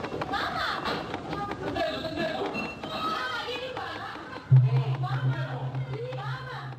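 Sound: people yelling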